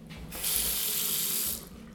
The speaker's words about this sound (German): Das war der Wasserhahn.